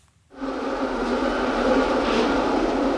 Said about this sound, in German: Dieses Geräusch ist heute in Paris nur selten zu hören. Kaum eine Metrolinie ist in Betrieb, auch die meisten Vorortzüge und Busse fallen aus.